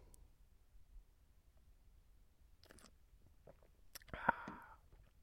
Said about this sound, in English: I must have another sip of wine. I'm running out of steam.